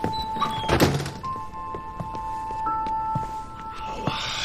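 A heavy thud near the start, like a door slamming, followed by a string of soft, evenly spaced footfalls as a woman stomps out, against a steady background hum. No one speaks.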